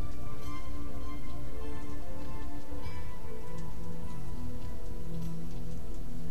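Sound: light drizzling rain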